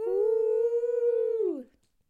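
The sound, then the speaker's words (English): A puppy lets out one long, steady howl, holding its pitch for about a second and a half before sliding downward and trailing off into silence. “Drewby bought me a puppy for my birthday.”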